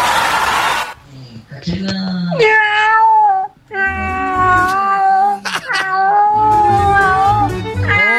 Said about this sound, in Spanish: Oye, hay que decirle a ese gato que deje de fumar, ¿ah? Bastante.